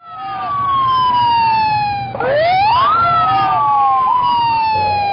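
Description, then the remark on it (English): An ambulance siren wails loudly, its pitch sliding down, then sweeping back up and holding, over a low rumble of street traffic, as ambulances take away the dead bodies of workers outside the Ali Enterprises garment factory in Karachi after a factory fire. “Outside the Ali Enterprises factory, ambulances take away the dead bodies of workers.”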